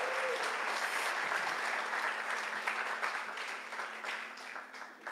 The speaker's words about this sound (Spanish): Un aplauso a mi hijo otra vez.